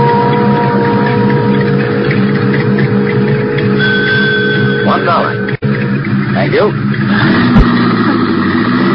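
A car engine drones steadily and loudly throughout as the vehicle drives, with a brief dropout partway through and a rising, revving pitch toward the end.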